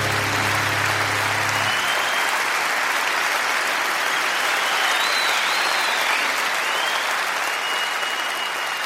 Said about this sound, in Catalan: Aplaudiments